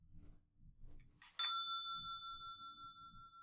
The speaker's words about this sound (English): I go, and it is done. The bell invites me. Hear it not, Duncan, for it is a knell that summons thee to heaven or to hell.